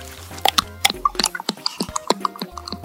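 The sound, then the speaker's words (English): Juice drips fast from a bottle fruit twisted at its narrow stalk end, in a quick, irregular patter of small wet plinks and splats, fairly clear, with no voices. “It'll be safe to bite in a minute or two, but give it a minute to finish dripping fast.”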